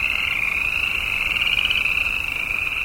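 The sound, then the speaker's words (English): A dense, continuous chorus of frogs trilling and croaking together in roadside pools in southern Yellowstone as winter breaks up and hibernation ends, steady and fairly loud throughout, with no gaps and no voices. “We pass pools of frogs telling everybody hibernation is over.”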